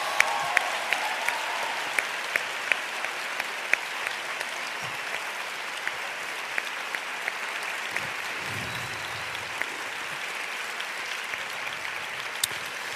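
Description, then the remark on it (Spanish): Sustained applause from a large theatre audience in Madrid, given for Concha Velasco: a dense steady patter of many hands clapping for the whole stretch with sharper individual claps popping out, a faint low murmur underneath. “Bueno, antes que nada, voy a pedir un gran, gran, gran aplauso a Concha Velasco.”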